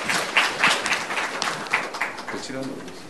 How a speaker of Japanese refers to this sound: では先生を拍手で歓迎したいと思います。よろしくお願いいたします。